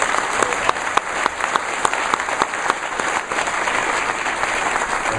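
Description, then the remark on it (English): Sustained clapping from a large audience applauding the many people behind a software release, a dense crackle of many hands with sharp individual claps popping out, steady and loud throughout with no voices. “So I think you all deserve a huge round of applause.”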